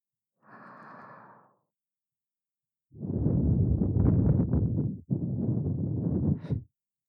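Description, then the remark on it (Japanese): Hot breath blown into the ear: one soft, short exhale, a pause, then two long, loud, rushing breaths in a row, airy and warm-sounding, with no talking. “熱い吐息を耳元に吹きかけるたび、背筋がビクンビクンってなってます。”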